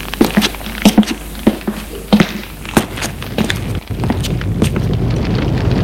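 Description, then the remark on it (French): A fireplace fire in a bedroom crackles, with irregular sharp pops and snaps over a steady low roar that thickens toward the end. No one speaks. “Là, elle retrouve un beau feu de cheminée qui pétille.”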